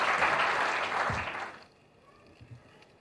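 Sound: audience applause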